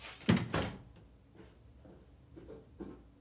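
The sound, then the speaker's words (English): A person leaving a room shuts the door with two quick heavy thuds, followed by quiet room tone with a few faint soft shuffles. “Beth leaves Jamie and shuts the door.”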